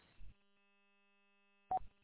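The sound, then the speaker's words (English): A car's seatbelt warning chime sounds because the driver is driving without a seatbelt: two brief electronic tones about one and a half seconds apart, with a faint steady electronic tone lingering between them. No one speaks. “I hear your chimes.”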